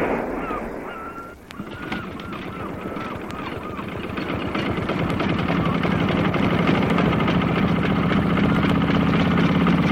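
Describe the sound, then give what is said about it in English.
A motorboat engine churns steadily and grows louder, its rapid throbbing pulse building into a continuous roar, with a few brief honking calls at the start. “Get this boat running.”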